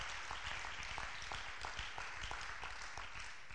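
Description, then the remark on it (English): A crowd claps hands unto the Lord, a dense, steady wash of clapping with faintly rhythmic accents every third of a second or so, held at an even loudness with no talking. “Can we clap our hands unto the Lord and bless his holy name?”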